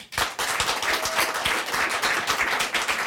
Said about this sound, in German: Man hört's schon, es ist hier heute sehr voll. Und deshalb mal kurz der Check. Bitte nochmal alle von euch klatschen, die von sich sagen, ja, ich lese am allerliebsten auch Thriller.